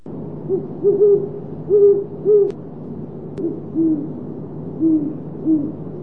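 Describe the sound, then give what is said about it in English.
A great horned owl hoots a series of deep, soft, rhythmic calls, about seven hoots in short groups, with steady low background hum and no talking. “Today's phonology is about great horned owls.”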